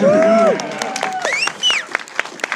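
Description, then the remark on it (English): A crowd cheers for Dogan with loud, high whoops and shouts, followed by scattered hand claps that continue in an uneven patter as the cheering fades. “Well, his mom's here, so cheer for Dogan.”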